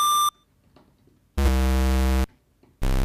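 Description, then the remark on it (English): A buzzy synthesizer pulse-wave tone, rich in harmonics with added pink noise hiss mixed in, plays in loud sustained bursts after a brief high beep, with quiet gaps between. “And it's like, this is just a pulse wave and it sounds so fat. With this noise”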